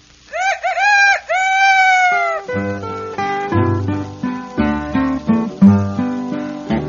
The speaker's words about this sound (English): I love my rooster, my rooster loves me. I love my rooster by the cottonwood tree. My little rooster goes cock-a-doodle-doo.